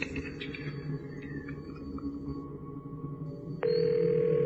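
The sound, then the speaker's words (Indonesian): A steady telephone ringback tone sounds through the earpiece near the end, after a few seconds of low, continuous background hum, as a call is placed to room 404. It comes in abruptly at moderate loudness, and no one answers or speaks. “Beberapa kali ku telpon, kamar itu tidak ada yang angkat.”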